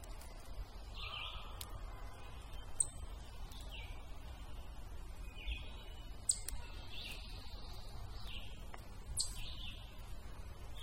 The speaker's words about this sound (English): Running this through the spectrogram, I don't see a huge variation, but the intensity of the frequencies made by the bird sounds definitely gets stronger as I point my microphone towards the canopy.